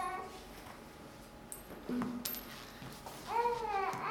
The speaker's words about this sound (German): Es ist eine Münze, eine.